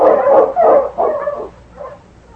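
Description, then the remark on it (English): A sled dog named King barks loudly, three quick barks in a row, then a softer, shorter yelp trailing off, while turning the dog team around. No voices are heard. “You mean to say, Sergeant, that you let the dog decide to go the long way around?”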